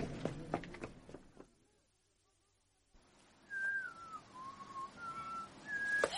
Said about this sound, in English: How will I find you in the dark? Whistle the Star Spangled Banner.